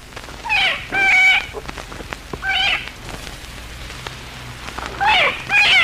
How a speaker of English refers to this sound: Listen to these actual squeals of a half-grown cottontail rabbit.